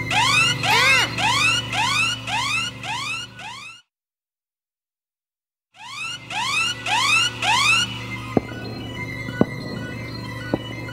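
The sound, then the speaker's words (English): A loud electronic alarm in Zedo's control room whoops in rapid repeating rising sweeps, breaks off into silence for about two seconds, then resumes over a low steady hum with a few sharp clicks. “Zedo hears the alarm and finds Colin and Clara in his control room.”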